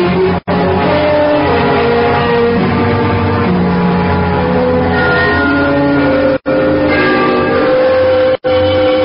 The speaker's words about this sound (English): The bells of Trinity had just run the 3/4 hour. They are at the lower extremity of the city, but I always like to listen for them. It was 1/4 to midnight.